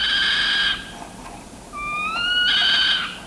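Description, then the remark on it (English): A saw-whet owl gives two drawn-out, high, whining meow-like calls with a strained, harmonic quality, separated by a brief pause; the second rises slightly in pitch before leveling off. No voices are present. “When agitated or threatened, the saw-whet gives what ornithologists describe as a decidedly uncanny, high-pitched meow.”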